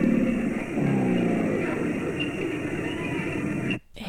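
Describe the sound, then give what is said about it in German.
A crocodile's deep, continuous rumbling growl with a throaty, engine-like drone that holds steady for several seconds, then briefly cuts out near the end before resuming. “Nee, es wäre das Krokodil gewesen.”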